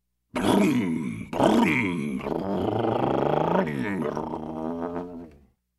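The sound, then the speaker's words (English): A voice imitates a motorcycle engine, pretending to be a motorcycle in a game of acting out things that begin with the sound M. It makes a loud, sustained buzzing rumble that rises and falls in pitch, revving in a few surges over about five seconds before cutting off. “Motorcycle.”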